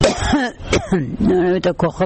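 A woman coughs several times in close succession, harsh raspy bursts mixed with strained, voiced throat sounds, heard up close with no one else speaking.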